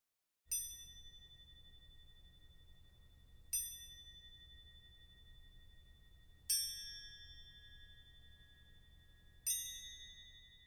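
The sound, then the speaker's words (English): Four bright, bell-like strikes on small antique cymbals in a Takemitsu piece, evoking raindrops, spaced about three seconds apart, each a high metallic ping like a droplet that rings on with a long shimmering decay over a soft low hum. “So we're playing on these little antique cymbals, these little sort of droplet sounds.”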